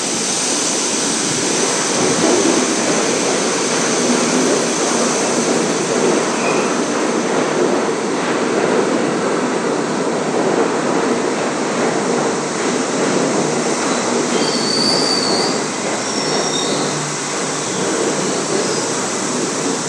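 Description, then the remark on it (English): A D subway train arrives to terminate, roaring loudly and steadily through the station, a dense rumbling rush of wheels and air, with a brief high-pitched squeal rising near the end. No one speaks. “As a D train arrives to terminate.”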